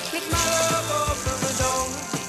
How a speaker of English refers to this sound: Oh, sorry, are you taking a shower? Yes.